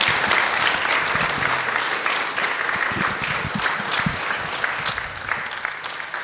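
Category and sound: crowd, audience applause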